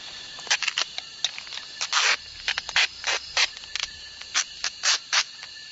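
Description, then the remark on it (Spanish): Insect repellent is sprayed from an aerosol can by a person putting it on while standing on a large pile of elephant dung, in a dozen short, bright hissing bursts at an uneven rhythm, one spray lasting noticeably longer than the rest. Nobody speaks. “Me estoy poniendo un repelente de insectos y luego me cerraré las mangas con cinta adhesiva para que no se me metan las hormigas y haya esta vez.”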